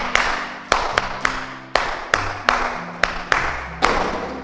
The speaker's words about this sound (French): Applaudissez pour tous ceux qui ont réussi.